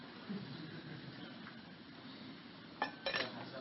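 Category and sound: household object, tea being poured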